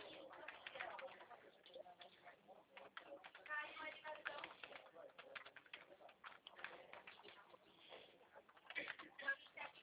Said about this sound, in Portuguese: Pronto, digitei o CNPJ.